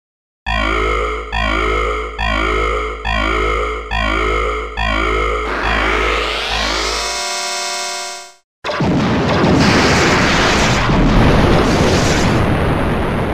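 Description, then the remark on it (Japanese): A time machine's emergency self-destruct after its button is pressed: a pulsing electronic alarm warbles six times, then a rising whine climbs and cuts to silence before a loud, sustained explosion roars and rumbles to the end. “ああ、爆発したこ。 大変。これじゃ未来に帰れないもはん。”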